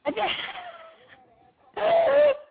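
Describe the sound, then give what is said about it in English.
A two-part sneeze: a breathy, voiced intake that trails off, a short pause, then a loud, sharp burst. It stands alone with no talking over it. “Gesundheit.”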